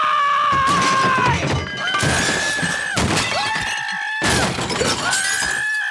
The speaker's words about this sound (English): Not only do we see him freak out, as the credits start rolling, we hear just a bunch of stuff just smashing and breaking.